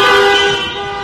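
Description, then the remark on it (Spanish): A loud, sustained car horn blares steadily for about a second, its bright tone holding nearly constant with a faint traffic rumble underneath and no voices, at a protest in Llerena where hospitality workers and shopkeepers gathered in their cars. “En Llerena, hosteleros y comerciantes se dieron cita desde sus coches para exigir ayudas reales a un sector que lleva cerrado demasiado tiempo.”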